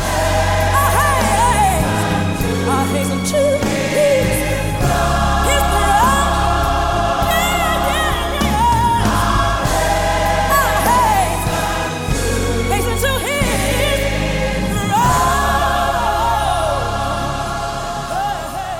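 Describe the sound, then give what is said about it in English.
A crowd of voices sings gospel in call and response, yelling out how much they love God, over full, loud instrumental backing, with a lead voice's wavering melodic lines rising above the group throughout. “even though you hear this crowd of people singing.”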